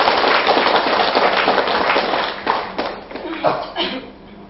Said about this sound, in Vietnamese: Và do đó các quý Phật tử tại thành phố Warsaw nói chung và tại chùa Nhân Hòa nói riêng đó, thì hãy vui mừng và dành một tràng vỗ tay về việc tốt đẹp này.